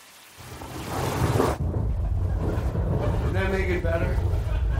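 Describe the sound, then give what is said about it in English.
A recording of steady rain hissing over a deep, continuous thunder rumble, played in the background, loud; the bright rain noise drops back after a moment while the low rumbling carries on, with voices talking over it near the end. “A little less on the rain. A little less on the thunder, too.”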